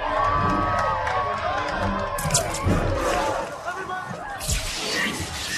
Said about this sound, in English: Now, can we get a big cheer for diversity?